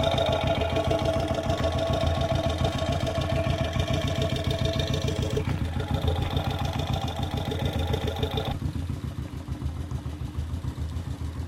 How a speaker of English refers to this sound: Let's go back towards the front of the motorcycle. I was at the back, and see just what different parts of the engine sound like. We're at the very front right now, at the bottom of the engine